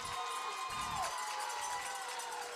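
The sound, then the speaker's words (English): A stadium crowd at a McDonald football game roars continuously, growing noisier as the quarterback lines up in the shotgun on third and 20: a dense wash of cheering and shouting that stays loud and steady throughout, with no single voice standing out. “Reynolds from the shotgun as the crowd gets noisier.”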